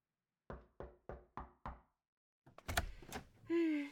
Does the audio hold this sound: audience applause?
no